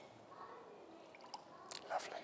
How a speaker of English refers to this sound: Let's just pour some water here, shall we?